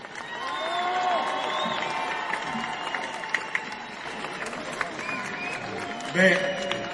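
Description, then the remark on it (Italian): A crowd applauds the Concordia per Belluno Dolomiti, clapping steadily for several seconds, a dense wash of hand claps with voices and scattered cheers mixed in, rising briefly near the end. “Applauso. Applaudiamo alla Concordia per Belluno Dolomiti.”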